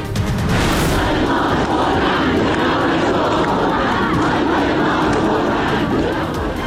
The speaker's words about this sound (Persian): برگزاری مراسم آیدا رستمی در گرگان همراه با شعارهای ضد حکومتی.